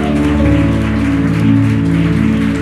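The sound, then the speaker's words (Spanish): An audience applauds with dense, steady clapping that holds at a loud level throughout, layered over sustained, droning musical tones from instruments. No one speaks. “Si ese eres tú, dale otro aplauso a papá y vamos a cantarle.”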